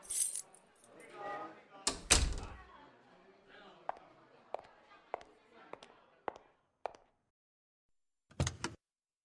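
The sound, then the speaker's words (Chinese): Car keys jangle with a bright metallic rattle near the start, followed by a series of evenly spaced small clinks and a final short jingle, while a muffled voice murmurs briefly at the beginning. “外边没地方坐了，把你的车钥匙给我吧，我去你车上等你。”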